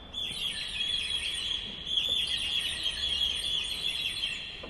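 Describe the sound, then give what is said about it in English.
The nightingale stop of an Italian organ, an 18th-century addition, gives a continuous, bright, warbling twitter imitating birdsong, high-pitched and busy, with steady loudness throughout and a brief dip near the middle; no one speaks. “We also, in the 18th century, had the addition of things like the nightingale stop.”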